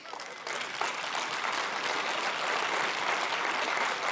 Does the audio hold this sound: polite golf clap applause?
yes